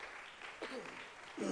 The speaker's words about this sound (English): Give the Lord a hand clap of praise as you're seated. Hallelujah.